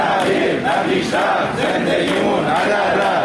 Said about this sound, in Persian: اینجا در اهواز هم فریادهای کارکنان و کارگران قرارداد موقت شرکت بهره برداری نفت کارون.